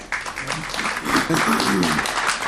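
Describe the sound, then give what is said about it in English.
An audience at a Minnesota legislative committee hearing claps steadily for a couple of seconds after a testimony, a dense, even patter of many hands at moderate loudness, with a voice speaking underneath the applause. “Audience, we'll like to refrain from applause.”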